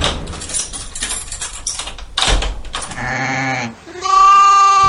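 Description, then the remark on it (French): A sheep bleats loudly in a zoo enclosure, two drawn-out harmonic bleats in succession after a couple of seconds of rustling and shuffling noise, with no talking. “Bon, c'est pas les éléphants, c'est le mouton.”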